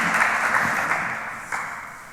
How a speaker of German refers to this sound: Also von daher vielleicht kleiner Applaus für diese Krankenkasse an der Stelle. Sie haben es geschafft.